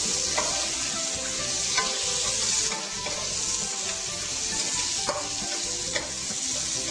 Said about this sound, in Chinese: 我们要趁这个时候呢，把我们这个姜跟葱一起跟它炒。我们要把姜跟葱全部都炒软，啊，全部炒软。